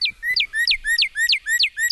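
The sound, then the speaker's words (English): A cardinal sings a clear, loud whistled song, repeating the same downslurred note about seven times in a steady, quick rhythm with no one talking. “And then that two note, birdie, birdie, birdie, cheer, cheer, cheer. And it's a nice clear whistle.”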